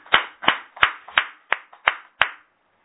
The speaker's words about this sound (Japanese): 還暦を迎えられましたので盛大な拍手です。